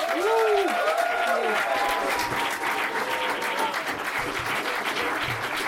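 A crowd applauds loudly and steadily throughout, dense clapping filling the whole stretch, with a few whoops and cheers rising briefly near the start.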